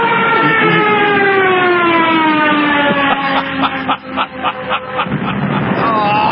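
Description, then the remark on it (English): A voice imitates a plane going down: a loud, steady, slowly falling whine that stretches for several seconds and then breaks into rapid, sputtering pulses. “That sounded like a plane going down.”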